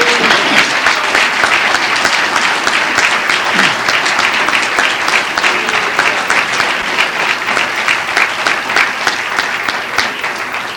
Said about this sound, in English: I'm on God's side. Whose side are you on? If you're on God's side, give them applause.